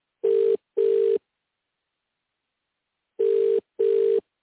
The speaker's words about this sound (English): All right, let's go. Calling Ireland. Calling the guy. I don't know. His phone's ringing. I guess he's not answering.